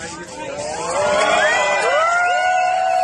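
A crowd at a competition awards podium bursts into a loud, sustained ovation, many voices cheering and whooping with rising, high-pitched shouts that swell and hold steady for the whole stretch, as a man kneels on the podium and proposes marriage to a woman collecting her fifth prize.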